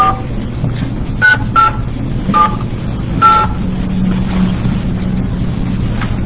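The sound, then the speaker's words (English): A few short, distinct telephone keypad dialing tones beep one after another at an uneven pace over a steady low rumble, fairly clear but not loud, as a phone number is dialed during a meeting to reach someone. “Have we been able to get Mr. Gonzalez on the phone?”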